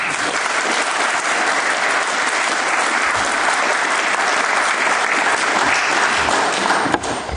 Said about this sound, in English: So I'd like you to join me in welcoming him with a short round of applause.